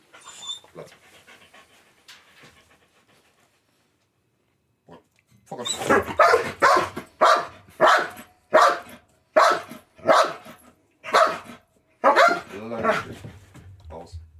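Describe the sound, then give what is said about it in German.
After a few quiet seconds, a dog starts barking loudly during a basic training exercise in which it finds a completely passive person it must not bite, a steady run of about a dozen sharp barks in a regular rhythm. “Der Hund findet jemanden, der komplett passiv ist.”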